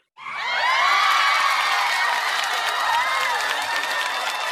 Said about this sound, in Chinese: 掌声在哪里？ 在这里。